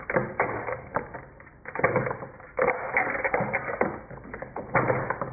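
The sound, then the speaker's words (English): A massive old dark wooden chapel door at Gray's Almshouses on East Street being unlocked with effort: a run of loud metallic clunks, scrapes and rattles as a key and bolt are worked, with irregular bursts and brief pauses, no talking. “quite an effort unlocking it”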